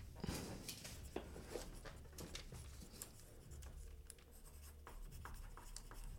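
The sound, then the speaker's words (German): Dry scratching of a pen moving across paper in quick irregular strokes as words are written down, with small taps and pauses, continuous for several seconds with no one speaking. “Wir schreiben uns jetzt wie viele Wörter?”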